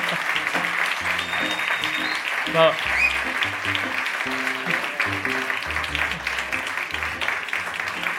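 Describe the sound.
A crowd breaks into sustained, dense applause that holds steady for several seconds, with a thumping low musical line and scattered voices audible beneath the clapping.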